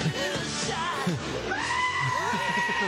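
goat screaming

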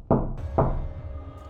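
knocking on a door

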